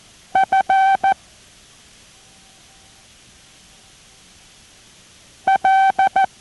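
Morse code tones being sent for listeners to copy, beeping in two short bursts of dots and dashes, a steady mid-pitched buzzy tone keyed on and off, separated by a few seconds of near silence with no talking.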